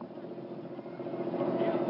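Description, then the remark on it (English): A boat engine drones steadily on the water as the boat travels toward the island of Erea, a continuous rumble that grows slightly louder toward the end. “We have to keep moving to reach our destination, the island of Erea. It's another hour by boat.”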